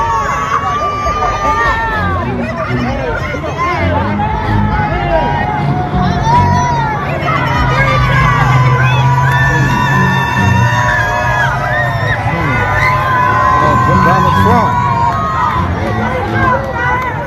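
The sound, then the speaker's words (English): A large crowd shouts and cheers continuously, a dense roar of many voices with rising whoops and chants, loud and sustained throughout, as people shout "free Trump" while a police procession goes past. “So you can just hear them all shouting, free Trump, as they go past.”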